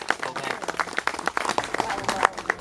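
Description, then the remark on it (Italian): An audience applauds to thank the person who conceived and made a new sacred work. The clapping is steady and moderately loud, a dense irregular patter of hand claps lasting a few seconds without a clear rhythm. “Bell'applauso.”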